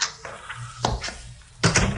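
A key rattles and turns in the lock of the private entrance door to an office, with a few sharp metallic clicks and a heavier clunk near the end as the bolt gives way.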